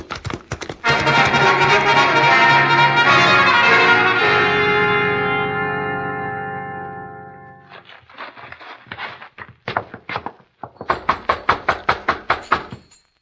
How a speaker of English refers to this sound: Nobody answers, Hoppy. You figure this is the right place? Yeah. Wade Benson's name is on the gate. Knock again.